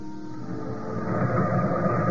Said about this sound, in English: The train for Spurnhead left London at noon on Friday.